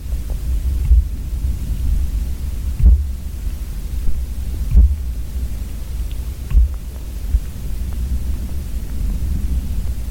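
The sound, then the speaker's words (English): Dull, low thumps repeat roughly every two seconds, about five in all, muffled and subtle over a steady low rumbling hum, as banging on a tree travels almost 100 feet through the ground into a hydrophone. “started banging on a tree. And you could hear the sound passing through the ground into the hydrophone”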